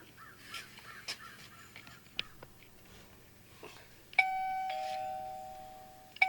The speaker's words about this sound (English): I want to know whose doorbell rings like 3 fucking times without pushing the button.